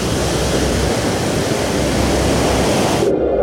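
A loud, continuous roar of rushing, surging water as a wave floods in, then abruptly turns muffled and dull near the end, as if plunging underwater. No one speaks.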